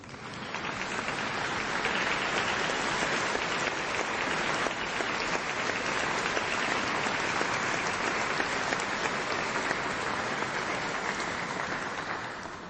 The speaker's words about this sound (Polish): Tutaj ktoś mi napisał, że małe oklaski się należą.